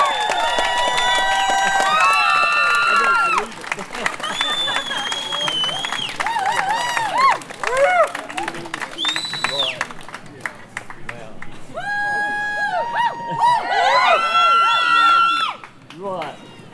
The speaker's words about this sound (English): Please, can I get a huge round of applause